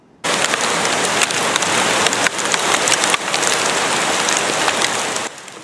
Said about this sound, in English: A female osprey was pelted by hail during a storm in Colorado earlier this week.